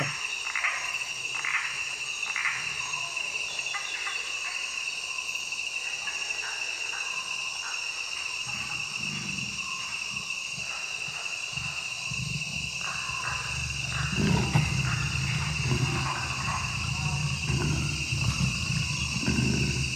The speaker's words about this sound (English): So let's listen to, we've got 7 little clips from the exhibit at the PBD Essex, and the first one is the Amazon.